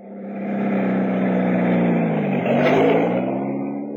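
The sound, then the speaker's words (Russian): Engines of new heavy trucks leaving an automobile plant through the factory gates rumble in a steady, loud low drone with strong harmonic tones, swelling slightly and shifting pitch midway as the vehicles roll on; no voices. “Как гудит под ногами земля. Это не под ногами, а под колесами.”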